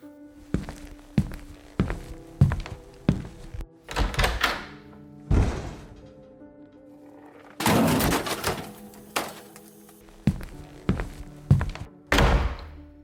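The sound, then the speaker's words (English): An old microwave is handled and dumped into the garbage: a string of heavy thunks and knocks, then a louder rattling crash and a few final bangs, with no voices. “What are we gonna do with the old microwave? Toss it in the garbage.”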